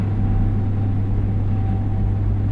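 A refrigerator's steady low electrical hum drones continuously in the background, with a faint higher whine on top and no other sounds or voices.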